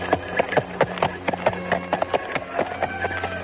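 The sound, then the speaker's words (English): Two black horses pulling a black carriage clop across a wooden bridge over the water surrounding Dracula Castle, in a quick, uneven rhythm of hollow knocks over a low steady rumble with no voices. “Alfred was woken up by the sound of horses' hooves on wood.”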